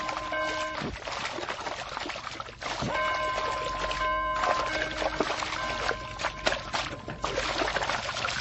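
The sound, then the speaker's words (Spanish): Seawater churns and splashes in a steady, dense rush as dozens of sharks gather, with a ringing bell cutting in several times over the turbulent water. “¡Míralos! ¡A docenas! ¡Hierve el agua!”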